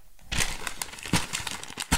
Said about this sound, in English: Hear that crumpling of that paper?